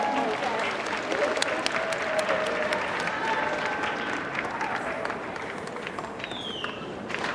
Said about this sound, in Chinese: 我想在这里有请有参加过我们 TRS 体重管理的，请你们站起来。哇，好多人是不是？我们给他们热烈掌声，谢谢。